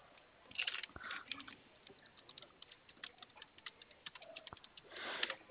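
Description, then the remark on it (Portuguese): Keys clatter on a computer keyboard as a WhatsApp message is typed, in quick, uneven bursts of light clicks, fairly quiet, with short pauses between runs of typing and no voices. “Te mandei uma mensagem, aí a partir de amanhã eu realizo a consulta, né, e verifico se você tem ou não, tá bom?”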